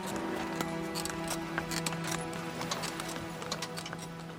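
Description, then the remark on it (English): Hooves clip-clop in a steady, quick rhythm as a horse cart rolls past on a sandy path on the car-free Gili Islands, with a low rumbling hum of wheels underneath and faint background noise. “The only sounds are bicycle bells, horse cart wheels, and waves lapping against pristine shores.”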